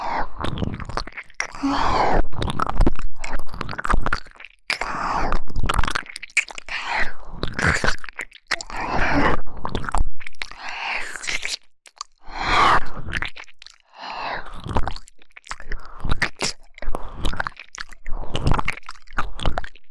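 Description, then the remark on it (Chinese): Wet, squishy mouth sounds of a palm being gently licked repeat steadily for the whole stretch, soft smacks and slurps in an irregular rhythm with brief pauses, moderately loud and with no talking. “怎么样，莲花火大人温柔的舔舐手心，这种事情还是第一次吧，有变得舒服一些吗？”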